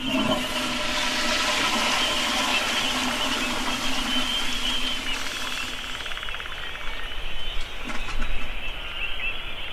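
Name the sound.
toilet flushing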